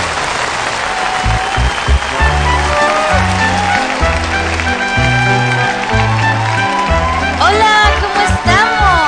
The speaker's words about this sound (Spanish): ¡Fuerte el aplauso!